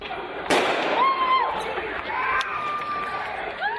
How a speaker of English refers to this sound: Shortly after dawn on Thursday, hell broke loose when out of the blue, heavy gunfire rent the air around Garissa University in northeastern Kenya, forcing hundreds of students to flee, seeking safety outside their campus.